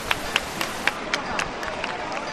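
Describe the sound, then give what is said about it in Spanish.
A crowd claps in a steady, quick rhythm as the Simpecado heads through the sanctuary door at 3:14 in the morning, sharp hand claps rising above a dense wash of background noise and murmuring voices. “y ahora sí que el sin pecado enfila la puerta del santuario, ahora empiezan los aplausos y ya ahora se va hacia adentro el sin pecado.”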